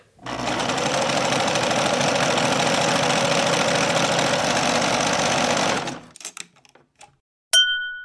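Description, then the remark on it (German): An electric sewing machine runs with a steady, dense mechanical whir for several seconds, then stops, followed by a few quiet clicks and a brief bright metallic ding. “Und die richtige Lösung ist A.”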